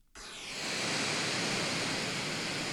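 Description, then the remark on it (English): Brown noise played from a phone app switches on abruptly and holds as a steady, even rushing hiss, fairly loud, with no pauses and no voices over it. “So I have an app on my phone that I use. I set it for brown noise.”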